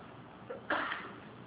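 A single short sneeze during an Arabic lesson on hadith, a quick intake of breath followed by a sharp burst of air, fairly soft and set against a quiet background with no talking.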